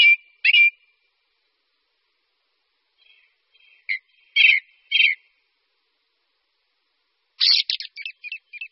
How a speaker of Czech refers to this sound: Připadá vám, že tento zpěv již znáte? Pak asi nejste tak daleko od správného určení. Jde o zpěv kosa horského, kterému se také říká kolhřivec.